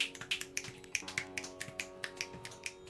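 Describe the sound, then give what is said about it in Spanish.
A scattered group of finger snaps, around a dozen sharp, bright clicks in an uneven rhythm, overlapping slightly like a small crowd snapping in place of clapping, over a low steady hum. “Me dijeron que a vos para aplaudir no te gustan los aplausos, preferís los chasquidos.”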